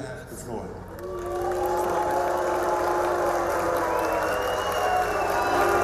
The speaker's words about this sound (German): Pfiffe und Buhrufe für Brasiliens Umweltminister.